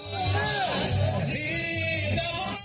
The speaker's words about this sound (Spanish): Vida sí, aborto no. Ese fue el grito repetido por miles de personas que participaron este martes en la Marcha Nacional por la Vida.